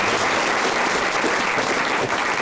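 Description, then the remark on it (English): An audience applauds steadily for a woman who has just spoken, a dense wash of many hands clapping at once, loud and sustained with no voices standing out. “I think she deserves a round of applause.”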